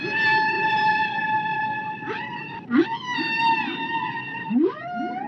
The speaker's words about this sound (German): Bei den Buckelwalen geht es ähnlich wie in der Vogelwelt zu. Die Männchen versuchen mit ihrem Gesang die Weibchen anzulocken.